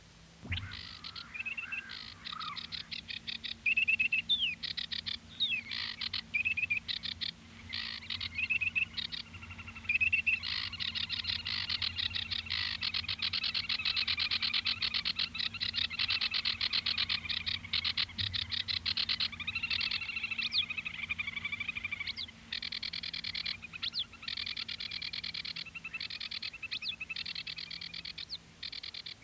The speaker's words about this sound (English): And so, you have to imagine him listening particularly in this marsh to the reed warbler, as we would call it, among the sedge warbler and the bittern, which are the other birds heard there.